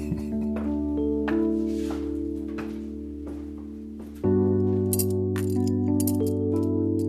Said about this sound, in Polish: To są takie klucze znalezione, całe pęcze kluczy. A w ogóle kluczy to ja mam dużo w pracowni, bo ja lubię klucze.